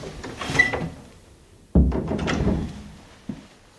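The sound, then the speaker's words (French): A door is pushed shut with a single solid thud, preceded by faint shuffling and followed by a softer knock a moment later. “Tu fermes la porte, Peter, s'il te plaît, et tu t'assois.”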